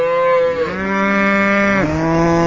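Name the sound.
cattle mooing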